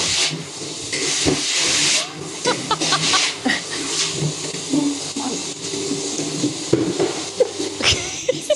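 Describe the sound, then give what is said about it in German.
A vacuum cleaner runs continuously with a loud, airy hiss over a low droning hum, its pitch wavering now and then, with a few brief knocks and clatters along the way. “Das ist ein Staubsauger, der ist ganz leise.”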